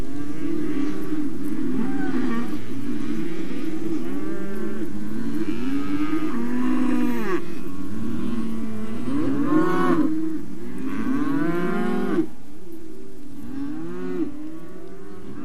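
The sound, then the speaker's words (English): Many cows moo continuously, calling out for their calves separated from them during weaning, their long, mournful, overlapping bellows rising and falling with no pauses between calls. No one speaks; the chorus of lowing fills the whole stretch. “These mournful cries are cows calling out for the calves that have been separated from them in the process of weaning.”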